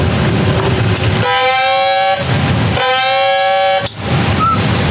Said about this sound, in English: From the 1MC, pass the word. Dive, dive. Sound two blasts of dive alarm. Pass the word. Dive, dive.